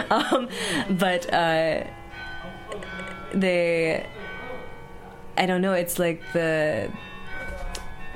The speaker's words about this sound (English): It's going to be the longer bell too, because it's the hour.